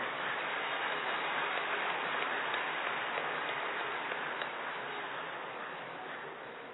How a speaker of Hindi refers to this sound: खूब ताली बजाओ।